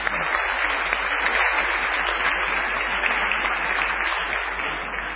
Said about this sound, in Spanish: Con un aplausito, ¿no?